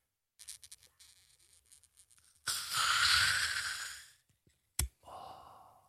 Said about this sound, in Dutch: Oké, dus wat je doet, je houdt de kurk in je hand en je draait de flessen. Ja. Weet je? En dan moet je even heel goed luisteren. Bij de microfoon moet hij zuchten.